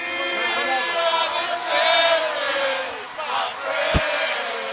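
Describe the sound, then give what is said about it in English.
A crowd of Dodger fans at a parade in downtown Los Angeles yells and cheers nonstop as double-decker buses carrying players, owners, coaches and family pass, many voices blending into a loud, sustained roar with rising shouts, and a single sharp crack near the end. “At that point, it's just a wall of yelling.”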